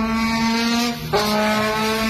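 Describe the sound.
A man riding on the luggage rack of a small moped in a town street in Britain plays a trombone imitating a revving motorcycle engine: a brassy, buzzing tone holds a steady low pitch before jumping sharply upward about halfway through, loud, with no talking.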